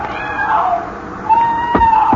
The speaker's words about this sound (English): Then you hear it, the cry of a woman out in the surf.